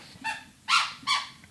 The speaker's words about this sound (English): You've taken three squeaky toys. She really is all about playing tonight.